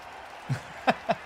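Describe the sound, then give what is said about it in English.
Three separate hand claps, sharp and moderately loud, come at an uneven pace over a quiet background with no talking. The first is slightly softer and duller than the next two. “We're clapping.”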